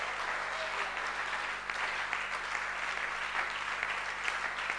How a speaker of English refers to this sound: Oh, I thought this clap would be the biggest I've heard in a long time.